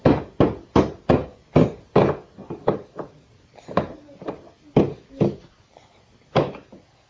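A little boy bangs nails with a hammer, starting with a quick, even run of loud, sharp blows, then slowing into scattered, uneven strikes, some softer, with short pauses between them. No one speaks.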